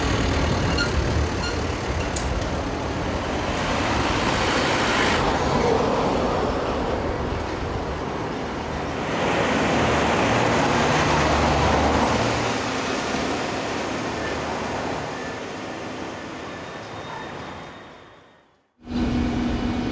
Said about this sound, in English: on the other side are the heavy goods vehicles which pass through the neighborhood and cause problems for the neighbors, such as shakes, noise, and some more.